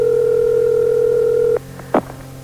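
A steady, loud telephone dial tone hums for about a second and a half as Sports Radio 1310 The Ticket places a call to Cowboys owner Jerry Jones, then cuts off, followed by a short burst of line noise or a click as the call connects.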